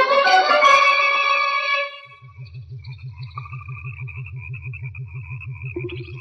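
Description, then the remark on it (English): A giant frog, 36 centimeters long, lets out a loud, deep, drawn-out croak, followed by a low, rapidly pulsing throb under eerie wavering tones. No one speaks. “This frog is a monster.”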